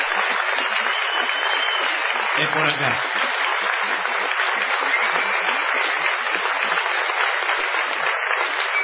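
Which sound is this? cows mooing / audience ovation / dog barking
audience ovation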